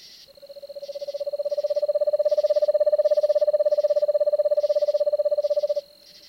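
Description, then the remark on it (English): An eastern screech owl gives a soft, even trill, a rapid stream of low whistled pulses held steadily for about five seconds, clear, over a faint high-pitched background hum. “The eastern screech owl has another common call, a soft, dreamlike trill.”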